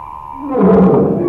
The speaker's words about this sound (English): There's the lion.